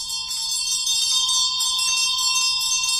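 A bell rings continuously and fairly loudly, its bright, shimmering overtones sustained with a slight pulsing wobble throughout, with no voices present.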